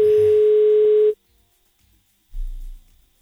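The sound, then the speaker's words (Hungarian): A steady, loud telephone dial tone holds one even pitch for about a second while calling the listener of the day, then cuts off abruptly, followed by quiet and a brief low rumble. “Hívjuk közben a nap hallgatóját.”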